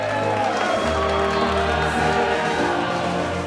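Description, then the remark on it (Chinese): A crowd in a satellite master control room breaks into steady applause and cheering after a successful satellite-to-ground docking test, dense and loud throughout, with a low sustained musical tone running underneath. “瞬间，掌声和欢呼声席卷了总控机房。”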